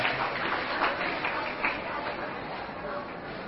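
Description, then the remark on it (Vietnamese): A crowd of children claps together in a steady, dense patter of applause to thank the program's group of benefactors, moderately loud, with a bit of chatter mixed underneath. “Xin các cháu hãy dành tràng pháo tay để cảm ơn đoàn Mạnh Thường Quân của chương trình hôm nay.”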